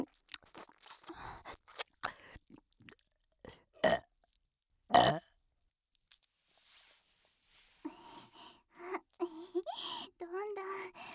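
A girl lets out two loud, close burps a second apart, preceded by wet mouth clicks and smacking, then soft breathy vocal sounds follow.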